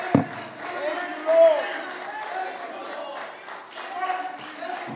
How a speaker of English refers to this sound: Let's clap our hands to the Lord and make a joyful noise. Hallelujah. Hallelujah. Thank you, Jesus.